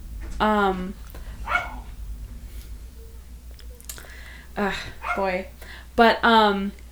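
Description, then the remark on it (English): A dog walking past barks at a cat sitting in a window, in short bursts: a handful of sharp, tonal barks spaced irregularly over several seconds, moderately loud against a steady low hum. “So one of our cats is in the window, and so dogs walk past and bark at the cats.”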